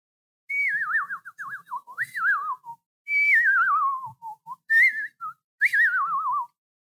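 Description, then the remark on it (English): A person whistles a trilling, bird-like call in several warbling phrases that slide downward, loud, with short pauses between them and no talking. “But here's my bird whistle.”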